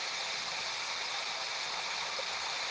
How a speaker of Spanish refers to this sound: Y te vas dando cuenta que se empieza a alejar de ti en ese arroyo que escuchas.